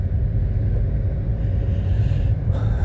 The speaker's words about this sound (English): You know, I was going to go to this restaurant, but it's blocked. I mean, there's so many trucks and tractors and unloading food.